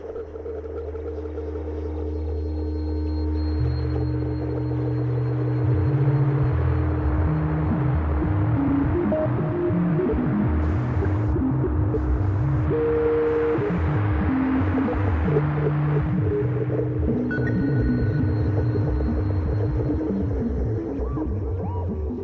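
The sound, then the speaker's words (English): Moth wingbeats picked up through a detector, rendered as a continuous throbbing electronic hum with shifting low tones and a wash of filtered static, fairly loud and steady throughout, with no talking. “The wings beat rhythms of filtered static, and when I pointed the detector at the moths, they made these sounds.”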